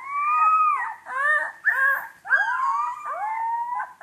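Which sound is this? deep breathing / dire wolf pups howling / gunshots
dire wolf pups howling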